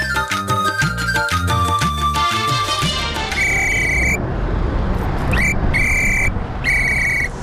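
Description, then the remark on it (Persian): Busy street traffic on a road in Kabul, Afghanistan: a steady rumble of engines fills the scene, layered with honking horns and several sharp, high whistle blasts cutting through in short bursts. “شنونده های عزیز، اکنون گزارش زنده داریم از جاده های شهر کابل که ما یکی از دو جاده شهر کابل که رفتیم و سر زدیم، اونجا دیدیم که اشاره ترافیکی اصلا وجود نداشت.”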